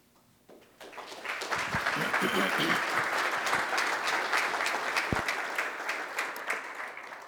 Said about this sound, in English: Wow, thank you for that. Generally, people applaud when I leave, not when I arrive. So it's good to have that change.